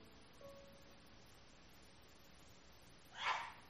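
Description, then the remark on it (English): A single short, sharp sneeze bursts out near the end after a few seconds of quiet background hiss, clearly louder than the background. “Bless you.”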